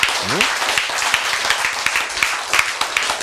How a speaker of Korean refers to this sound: 왜 노란콩이 좋아요? 그렇죠, 흔하니까. 싸니까. 그런 거예요. 박수!